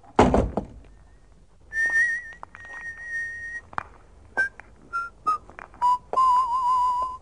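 A door of the old Radio Nederland building shuts with a single heavy thud after the last broadcast there, then someone whistles a wavering tune made of held notes and short chirps, with no talking.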